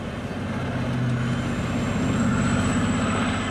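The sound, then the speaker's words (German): A large visitors' bus engine idles at the Talvivaara open-pit mine with a steady, deep diesel rumble and a faint high whine over it, continuous and unchanging throughout, with no voices. “Besucher müssen in einen Bus umsteigen.”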